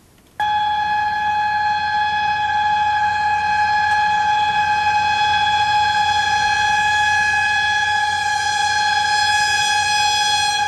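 A railbus warning signal horn blares in one long, loud, unbroken blast that starts abruptly and holds steady for about ten seconds, with no talking.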